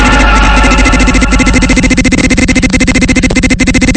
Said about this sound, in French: Ding dong. Il va falloir faire réviser cette sonnette, elle déconne un petit peu.